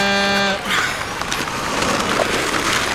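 A starting horn signals the start of a downhill skateboard race final with five skaters, giving one steady, buzzy blast lasting about half a second, then cuts off into a continuous loud, rough wash of noise.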